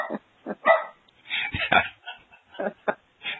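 Dogs bark in a quick, irregular series of sharp yaps and woofs, some overlapping, sounding slightly muffled and set back from the listener, with no talking over them.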